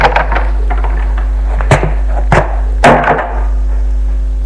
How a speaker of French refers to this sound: Elle l'entend qui descend des escaliers. Une porte s'ouvre.